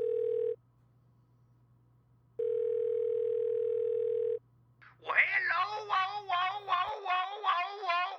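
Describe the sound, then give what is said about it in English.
A telephone ringback tone: a short steady electronic burst, a pause, then a longer burst over a faint low hum, followed by a loud warbling, meow-like vocal sound. “Let's see what we got here. It's ringing.”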